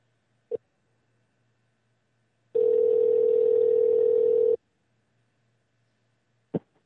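A steady telephone dial tone hums for about two seconds, framed by sharp handset clicks before and after, with no one speaking, as a host of the radio show The New American Dream phones a guest to put him on the air.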